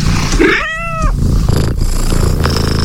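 A cat gives a single drawn-out meow, bending up and then down in pitch, over a steady, loud, low purring rumble that runs through the whole clip, with no talking.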